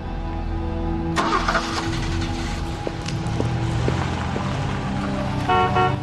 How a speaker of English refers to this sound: Sam starts his car.